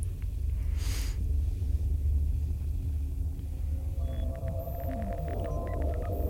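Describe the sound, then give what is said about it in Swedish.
A dense, steady low machine hum drones throughout in a dark server room with blinking lights and a colossal computer installation, with a brief airy whoosh near the start and faint electronic beeps and warbling tones joining in the last couple of seconds. “Nej, men jag går in i serverrummet.”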